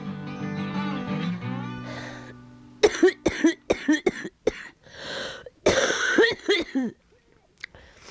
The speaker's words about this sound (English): It's funny, sometimes I cough so hard that I can see stars.